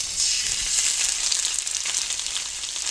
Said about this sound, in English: And it comes through the holes in the machine in ribbons, and he stood there with scissors and cut the ribbons and had them fall into the vat of hot fat.